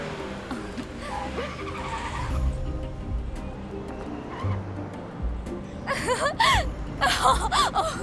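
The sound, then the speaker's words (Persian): A car engine roars loudly as the vehicle takes off at high speed while the driver tests how fast it goes, with sharp, wavering tire squeals bursting out near the end, intense. “این ماشین بی نظیره. بریم ببینیم چند تا سرعت میره.”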